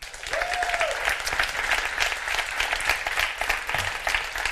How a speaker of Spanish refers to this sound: Y además va a ser la primera vez, nuestro primer Fuera de Series Live, en el que habrá más mujeres que hombres aquí arriba. Eso merece un gran aplauso.